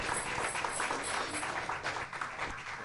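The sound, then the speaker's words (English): A church audience in the sanctuary claps their hands in steady, sustained applause of praise as a reverend comes forward, a dense wash of many overlapping claps at a moderate level without pause. “Let's give God a hand clap of praise. Hand clap of praise as she comes forward in her own way.”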